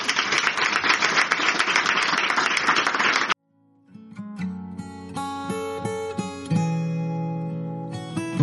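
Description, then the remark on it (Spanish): A crowd claps steadily and loudly for about three seconds in applause for the people who came to the event, then the applause cuts off abruptly and gentle instrumental music with sustained tones begins. “Y este aplauso es para vosotros.”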